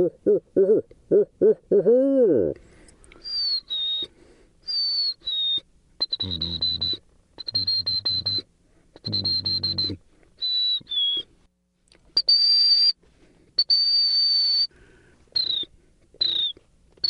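A man in a car whistles a run of high, clear, bird-like phrases, short rising and falling notes in bursts with brief pauses, after a few low, wavering vocal hoots at the start.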